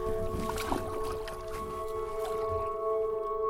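Water sloshes and drips softly as a kayak paddle dips while Meghna Chakrabarty and author Deborah Kramer kayak through the Great Marsh in 2016. A steady low hum and faint tonal ringing sit underneath, with no voices present.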